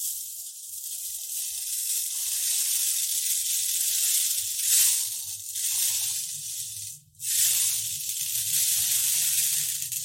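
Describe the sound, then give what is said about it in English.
A continuous soft, bright rustling hiss like gentle rainfall, as from a rain stick, with slight swells and a brief dip in the pattering, plus a faint low hum underneath. “As you listen to the soothing sound of the rain stick, mimicking a gentle rainfall, washing away any tension and worry.”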